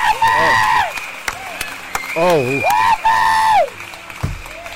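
Loud audience applause, a dense steady wash of clapping, with shouted whoops and high rising-and-falling cheers riding over it before it thins out near the end.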